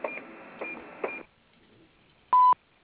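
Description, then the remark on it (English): A single loud beep from a business's answering machine, a short steady electronic tone lasting about a quarter second, signalling callers to leave a message. It follows a stretch of hissy noise with a few clicks, then a moment of near silence. “Please leave your name, telephone number, and message after the beep, and we'll return your call promptly.”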